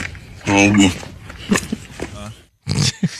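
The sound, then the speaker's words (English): A cow gives a low, drawn-out moo that rises and falls almost like a spoken greeting, followed by a few shorter, softer vocal sounds and a brief pause. “Today we have a cow that says good morning.”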